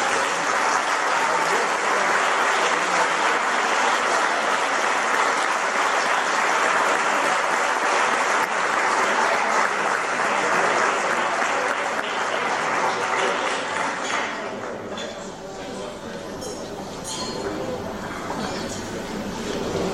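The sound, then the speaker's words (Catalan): Loud, sustained applause from an audience at a student award ceremony of the Grup d'Estudis Sitgetans, as the first prize in the Batxillerat category is presented, a dense wash of clapping easing slightly toward the end as it begins to thin out. “Un fort aplaudiment.”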